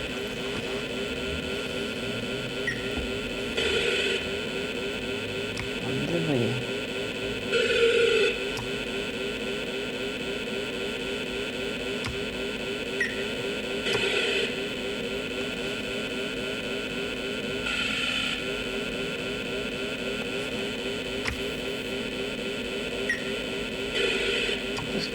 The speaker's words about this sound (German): Geräusch, wenn man durch das Wasser durchfährt, es kann auch so einen Fluss durchqueren